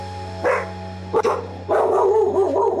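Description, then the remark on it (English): A dog, the speaker's own, barks loudly: one sharp bark, a second shortly after, then a longer run of barking, all over a steady low electrical hum with no talking. “That's not my dog. It's my dog.”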